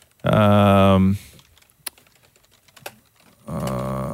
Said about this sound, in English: You know, it's like we're all writing our memoirs here, the way people are typing.